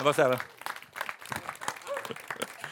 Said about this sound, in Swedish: Jag kan ge Jesus en applåd.